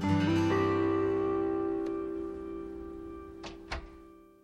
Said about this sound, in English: They move inside the room and close the door.